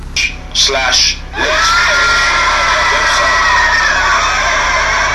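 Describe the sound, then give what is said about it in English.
A loud burst of shrieking, whooping voices and wild laughter, like a raucous crowd sound effect, with sharp high cries at the start giving way to sustained noisy yelling. “He's got a picture of me and my wife, and he's got this screaming, laughing sound.”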